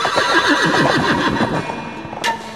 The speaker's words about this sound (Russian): А спустя еще час услышал младший сын падишаха, как содрогнулись небеса. Земля начала ходить ходуном, послышался топот копыт, громкий, как раскаты грома, видит джигит. Скачет пегий жеребец в 60 обхватов.